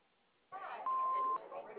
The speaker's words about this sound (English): We cannot get to the phone right now, but if you'd like to leave a message, you know, leave it after the beep.